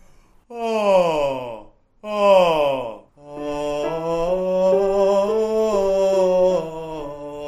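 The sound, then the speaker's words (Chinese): A voice demonstrates the feeling of a yawn for a singing exercise using the throat cavity: two drawn-out, falling yawn-like sighs, then a long, steady open-throated tone that wavers slightly in pitch, clear with no talking. “喉腔能够让我们声音变得厚实有力，找这个打哈欠的感觉。”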